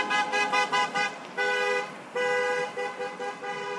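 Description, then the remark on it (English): Car horns honk repeatedly from passing vehicles in support of a small flag-waving roadside rally: a burst of short quick toots, then longer sustained blasts, clear over a low hum of road traffic, under overcast skies and heavy rain showers. “Between overcast skies and heavy rain showers, the group waved their flags as vehicles passed by, some honking their horns in support.”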